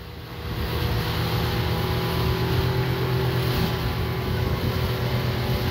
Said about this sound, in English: Holy fuck. There's four boats that came close to ramming us. All of them trying to come after us.